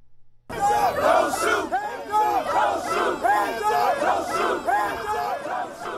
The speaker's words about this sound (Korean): 네, 수백 명의 시위대가 총을 쏘지 말라는 구호를 외치며 행진했는데요. 이날 시위는 대부분 평화로운 분위기 속에 진행됐습니다.